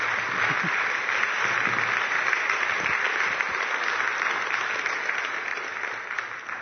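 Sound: audience applause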